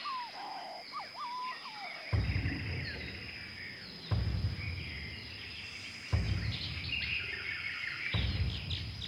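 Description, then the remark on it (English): Jungle ambience with chirping, whistling bird calls over a steady high insect drone, while deep, heavy thuds of huge footsteps boom at a slow, regular pace about every two seconds. “Yes, these are jungle sounds.”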